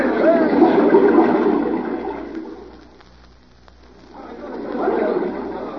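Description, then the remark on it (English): A waterfall rushes with a dense, steady roar that fades noticeably for a moment midway, then swells back to full strength near the end. “Jim's coming from behind the waterfall now, Sheriff.”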